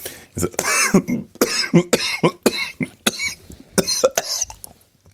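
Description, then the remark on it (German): A person coughs in a rapid fit of repeated, harsh bursts, with short gasping breaths in between and no pause for several seconds. “Dabei habe ich eigentlich gedacht, dass diese Hustenanfälle vorbei sind.”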